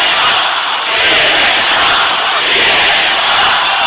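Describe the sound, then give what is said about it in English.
A large crowd chants "CNN sucks" together, a loud, sustained wall of many voices with only slight dips in volume, no single speaker standing out above the mass. “Every person shouting it out.”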